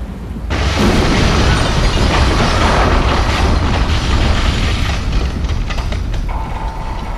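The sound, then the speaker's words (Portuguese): A loud explosion set off by Linka Ferro bursts in suddenly after a brief pause, then a heavy rumbling roar with crackling debris carries on for several seconds, dense, with no voices. “E você pula de um prédio para outro, enquanto nas suas costas, uma explosão feita por Linka Ferro.”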